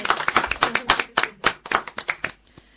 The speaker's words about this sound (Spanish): Un aplauso. Venga, un aplauso.